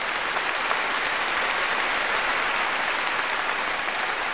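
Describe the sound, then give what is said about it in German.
A large concert audience applauds an orchestra's performance steadily, a dense wash of clapping hands that stays loud and even throughout, with no voices standing out. “Langsam befreite sich das Publikum von seiner Betroffenheit und begann zu applaudieren.”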